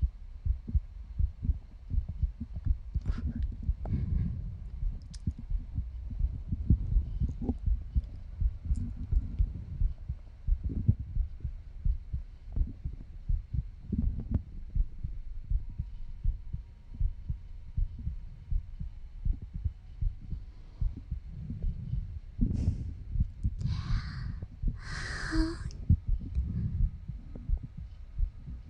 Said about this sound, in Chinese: 怎么听得见我的心跳吗？